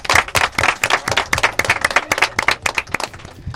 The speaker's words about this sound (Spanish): Se aplauden ellos mismos. A nosotros nos ha costado aplaudir un poco.